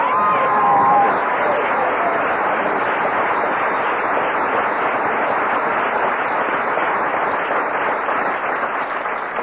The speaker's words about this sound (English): You should applaud. Applaud yourself for that.